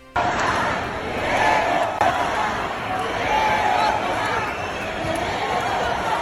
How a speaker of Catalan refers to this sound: Sona marabunta, eh? Eren centenars, potser milers de persones aglomerades en pilota davant dels pavellons intentant creuar-los. Només creuar-los.